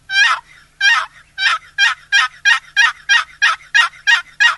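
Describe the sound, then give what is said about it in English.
A run of about twelve sharp turkey yelps played on a box call, loud, in a steady rhythm that quickens slightly, with no other sounds around them. “If you can just learn the basic yelp and something as easy to use as a box call, you can call turkeys during the mating season.”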